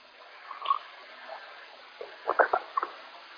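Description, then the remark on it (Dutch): Someone takes a quick sip of water, with a faint clink early on and then a short run of wet gulping swallows near the end. No one speaks. “Voordat ik eerst een slokje water gehad heb.”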